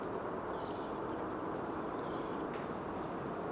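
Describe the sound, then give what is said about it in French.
Two thin, high, downward-slurred calls ring out about two seconds apart from a redwing, a migrant from Scandinavia landing at the top of a tree after flying all night, fairly clear over a steady hiss of outdoor background noise. “Grive Mauvis.”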